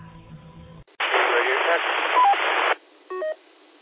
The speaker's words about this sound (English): I'm not sure what's going on. I only got a blip of a transmission.